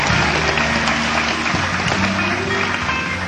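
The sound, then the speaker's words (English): A crowd in Chicago applauds steadily, a dense wash of many hands clapping at an even, loud level throughout, with faint murmurs of voices mixed in. “big round of applause in Chicago, ladies and gentlemen.”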